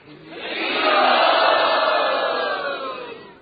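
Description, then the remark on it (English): A crowd of devotees roars together in response to the announcement of a sacred book, a sustained, swelling cheer that builds to a loud peak around the middle and then gradually fades, a broad wash of many voices with no distinct words. “Jiva Goswami, with great love and reverence, would place the book on his head and then put it in the box, announcing to the devotees, "This is Rupa Goswami's Bhakti Rasamrita Sindhu," and all the devotees would roar.”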